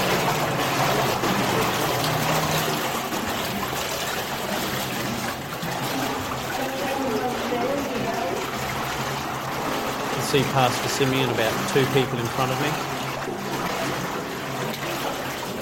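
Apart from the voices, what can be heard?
splashing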